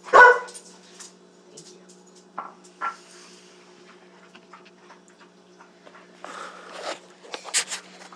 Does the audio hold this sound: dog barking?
yes